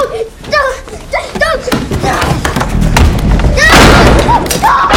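A heavy, booming slam of a hinged crawl-space door lands midway, with a muffled rattle of the door after it, while excited children playing a pretend game squeal and shout throughout.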